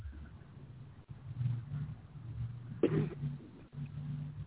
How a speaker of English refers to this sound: Somebody just coughed.